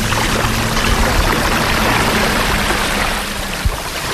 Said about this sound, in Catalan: Us heu d'imaginar arribar a les 8 del matí, que esteu sols a la platja, comencen a picar els primers rajos de sol del dia, sou davant d'una mar bastant calmada, que sonava justament així.